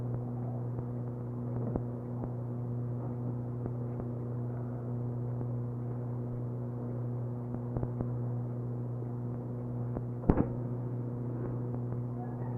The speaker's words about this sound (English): Bullfrog.